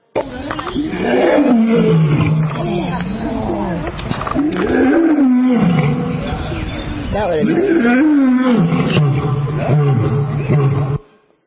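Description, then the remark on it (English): A lion roars loudly in a continuous series of deep, rumbling roars with rising and falling pitch, lasting about eleven seconds before cutting off abruptly. “What does a 500-pound lion do? Anything he wants.”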